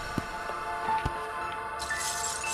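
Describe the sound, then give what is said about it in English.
Broken glass crunches and crackles as a performer stands on hundreds of pieces of glass, with a few sharp clinks scattered through and a brighter gritty grinding toward the end, as if shards are being pressed underfoot. “So when we see someone standing on hundreds of pieces, we automatically think it must hurt even more.”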